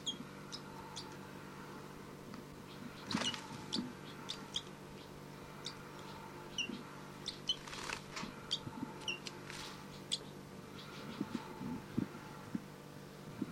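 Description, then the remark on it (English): A young bird, Bird 302, gives begging calls to bird 5-9 and gets nothing: a long run of short, thin, high chirps at irregular intervals, some in quick bursts, over a steady low mechanical hum. “This is Bird 302 begging from 5-9.”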